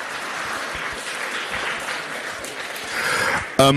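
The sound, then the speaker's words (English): Sustained applause from the audience of a political question-and-answer debate, a dense crackle of many hands clapping steadily, swelling slightly near the end before a brief voice cuts in. “Okay, yeah, go on, give him a round of applause.”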